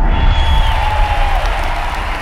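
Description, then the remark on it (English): A large crowd cheers and applauds in a dense, steady roar as a man steps out onto a balcony, with a high sustained whistle-like tone riding above the noise before sliding downward. “and the large crowd bursts into cheers.”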